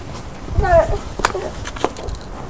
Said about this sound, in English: The paper's in the wind. Oh, is it blowing in the wind? Yeah. It's blowing the wind out.